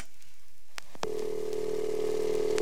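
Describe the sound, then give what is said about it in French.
A couple of sharp clicks from a telephone receiver being picked up, followed by a steady, continuous dial tone humming at moderate volume until the end, with no voices present. “Bon, un autre petit coup. Un petit coup de téléphone.”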